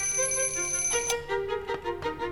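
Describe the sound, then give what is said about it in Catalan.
An alarm clock rings with a steady electronic tone, then is interrupted by fumbling knocks and clatter as someone in bed gropes across the bedside table for it and shuts it off. “Des del llit, en Gerard palpa la tauleta de nit buscant el despertador”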